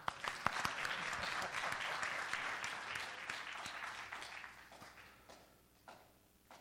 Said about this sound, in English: I think y'all forgot I said this is a celebration. That means clap.